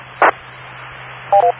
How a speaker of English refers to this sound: My phone rang.